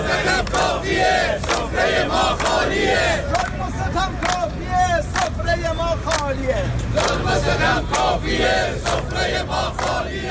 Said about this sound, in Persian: صدای قابلمه های خالی مردم را بشنوید.